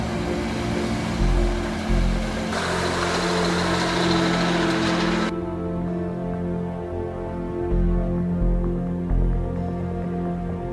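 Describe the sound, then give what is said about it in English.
The heavy diesel engine of an ex-U.S. military truck, converted to right-hand drive, idles steadily, its deep low rumble constant throughout, with a brief hissing burst of higher noise partway through. “These are some ex-military, U.S. military trucks we shipped over.”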